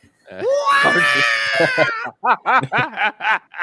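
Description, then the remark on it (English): A voice imitates a shrill, warbling R2-D2 robot droid scream, a sustained electronic-sounding wail of almost two seconds, followed by a run of rhythmic bursts of laughter. “I imagine he does an R2-D2 scream he's during sex.”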